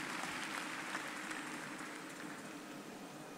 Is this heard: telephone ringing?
no